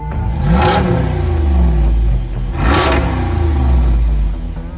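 A 392 V8 muscle car engine making 470 horsepower in a Jeep revs hard twice, each blip rising into a deep, throaty roar before settling back to a loud, rumbling idle, with no talking.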